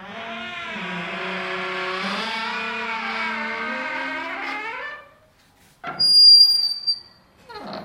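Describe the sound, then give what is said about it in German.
An apartment's squeaking bathroom door in Berlin, swung the other way, creaks in one long, loud, wavering squeal lasting several seconds, followed after a brief pause by a thinner, higher-pitched squeak. No one speaks. “Ich habe wahrscheinlich die am schönsten quietschende Badezimmertür der Welt.”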